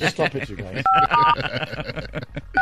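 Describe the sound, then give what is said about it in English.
Three short phone keypad tones beep in quick succession as numbers are pressed to dial, each a clean dual-pitched blip, while people talk over and between them. “It's not like an average phone. No. We just press the numbers.”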